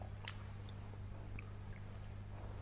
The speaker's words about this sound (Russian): Если бы у меня была побольше реализация, я после того, как откусил вот это печенье, мог бы откусить от этого стола, но, к сожалению, Я не граф Калиостро, там, и не прочее, и тому подобное.